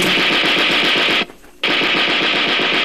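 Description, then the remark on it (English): Two loud bursts of rapid submachine gun fire from a German soldier's burp gun, each a dense stream of sharp cracks, separated by a brief pause of near silence. No voices. “He took two quick bursts at me.”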